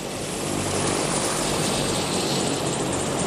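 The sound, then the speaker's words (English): The Alert medical helicopter roars as it comes in to land in an empty parking lot near the Big Mountain Base Lodge, its rotor and engine noise a steady, dense wash with no voices over it. “Pilot Ken Justice lands the Alert medical helicopter in an empty parking lot near the Big Mountain Base Lodge.”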